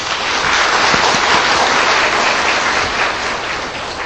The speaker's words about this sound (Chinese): 请我们鼓掌欢迎她。